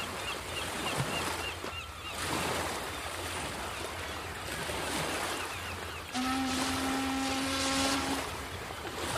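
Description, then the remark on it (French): A steamboat carrying crates of stones from Marseille to Ajaccio churns through rough water, a steady roar of waves and engine noise, then a long, low ship's horn blows for about two seconds near the end. “On déposa les pierres des Tuileries dans 185 caisses expédiées par chemin de fer de Paris à Marseille, puis de Marseille à Ajaccio, sur des bateaux à vapeur de la compagnie Valérie et de la compagnie Transatlantique.”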